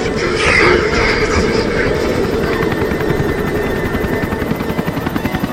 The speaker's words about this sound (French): Tiens, il y a un autre hélico qui arrive.